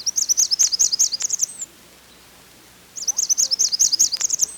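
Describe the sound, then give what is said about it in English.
Two bursts of very high, thin, buzzy Blackburnian warbler song, rapid sibilant notes climbing in pitch, separated by a short pause, clear with no voices. “Blackburnian warblers usually stay way up in the treetops, and even their song doesn't always help. It's so high-pitched that it's out of the hearing range of many people.”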